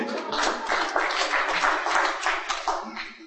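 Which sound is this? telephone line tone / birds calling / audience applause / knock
audience applause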